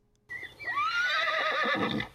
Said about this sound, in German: Wie heißt dein Pferd?